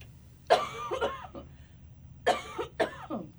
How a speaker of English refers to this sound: I got a cough.